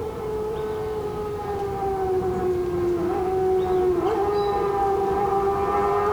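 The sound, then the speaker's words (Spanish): A motorcycle approaching in open countryside, its engine a steady, humming drone that wavers slightly in pitch and grows a little louder over several seconds, with no one talking. “Sí, es una motocicleta.”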